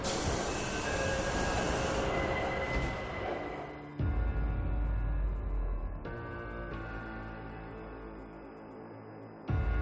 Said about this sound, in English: Shahid Hemat Station. Oh, here I have to get off the train.